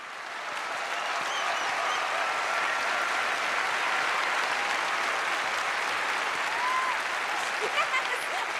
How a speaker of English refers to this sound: The audience getting to their feet, except for Tara's dad. The dancers on stage applaud